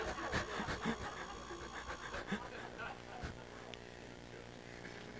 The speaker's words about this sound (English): Blimey. It's a lot of traffic this morning.